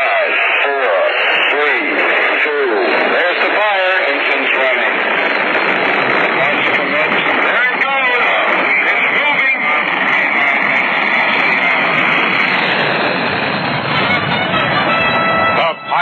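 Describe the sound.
The roar of Saturn V rocket engines igniting at the launch of Apollo 10 builds and rumbles steadily through a tinny, radio-style broadcast, with a voice speaking over it at first before the thunderous engine noise dominates.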